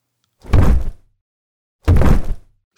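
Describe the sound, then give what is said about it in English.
Two heavy, booming stomps of an elephant land about a second and a half apart, each a loud, deep thud with a brief rumble, like giant footsteps shaking the ground, with no voices. “Elephant comes stomping along, shaking the ground with every stomp.”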